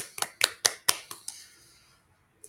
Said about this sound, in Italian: Con noi in studio c'è il presidente di GAEMAR, che par per parlare dei primi passi dell'associazione e delle visioni per il futuro. Benvenuto. Applausi.